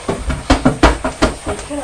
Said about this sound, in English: And you're kicking the chair with your foot.